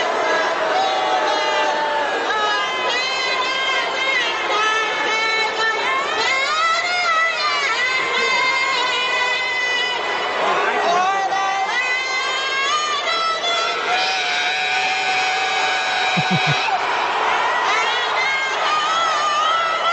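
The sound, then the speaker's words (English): A huge stadium crowd boos and hisses loudly and continuously, a dense wall of jeering voices nearly drowning out a female singer pushing through the US national anthem for the whole stretch. “Oh, the pure hate from the crowd, just the booing, the hissing as she's just, you know, pushing through”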